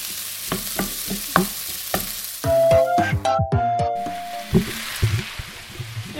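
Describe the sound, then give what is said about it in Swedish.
Red onion, garlic, bell pepper and fresh ginger sizzle and crackle steadily as they fry in a hot Teflon pan, with repeated scraping and knocking as a utensil stirs them, fairly loud, with no one talking. “Nu har vi fyllt på med både vitlök och paprika. Stek det på bra.”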